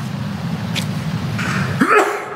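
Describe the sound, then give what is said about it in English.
A single short sneeze bursts out near the end, moderately loud, over a steady low rumble of background noise. “Bless you.”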